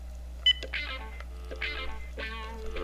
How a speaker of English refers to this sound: So we just got to get a dial tone here.